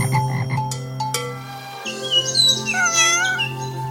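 A low, buzzing frog croak fills the first half, then a cat meows in a drawn-out, wavering cry that rises and falls for about two seconds. No one speaks.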